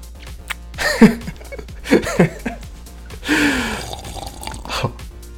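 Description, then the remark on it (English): Cold liquid is poured onto the stomach of a person lying on a table, splashing onto skin in a few short bursts, with sharp gasps and breathy vocal reactions between the pours and no clear speech. “And you can pour it on my stomach.”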